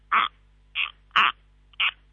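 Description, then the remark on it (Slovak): Four harsh, rasping calls in an even, steady rhythm, each short and loud, as a voice imitates a corncrake's dry double croak, with no talking in between. “tak ja sa teraz rozlúčim aj s poslúkačmi a s vami tým spôsobom, ako sa vylúčite vždy, že dobrý deň alebo dovidenia alebo s pánom Bohom, tak toto je pozdrav od chrapkáča.”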